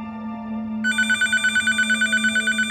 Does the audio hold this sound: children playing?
no